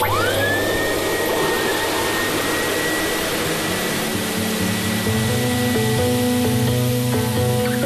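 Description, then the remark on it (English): A powerful double blower dryer for grooming cattle roars, its motor whining as it spins up, then holding a loud, steady rush of air with humming tones throughout and no talking. On a farm in County Laois, Ireland. “So this is a double grow dryer.”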